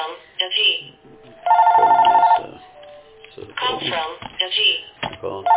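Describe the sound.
A telephone rings once in a loud, sustained electronic burst lasting about a second, set between stretches of muffled, narrow-band talking.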